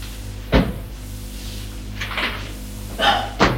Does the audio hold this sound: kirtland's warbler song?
no